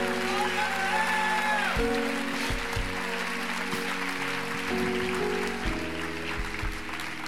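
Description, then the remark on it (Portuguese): An audience at a Renascer church service applauds the Lord steadily for several seconds, a dense, even wash of clapping, while sustained keyboard chords hum beneath and shift a few times. “Pode aplaudir ao Senhor mesmo, porque é Deus fazendo uma obra aqui.”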